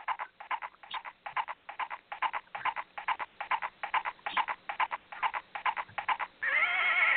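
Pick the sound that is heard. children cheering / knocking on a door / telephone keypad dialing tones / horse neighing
horse neighing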